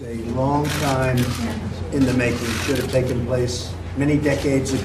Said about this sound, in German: Blitzlichtgewitter im Weißen Haus.